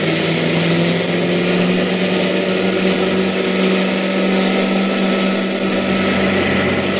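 An overheating, boiling car motor runs steadily, a loud, unbroken mechanical drone with a whining hum and steady low tones, holding an even level throughout with no voices.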